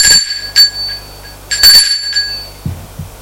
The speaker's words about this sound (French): Il sonne à la porte parce qu'elle ne lui a pas donné les clés.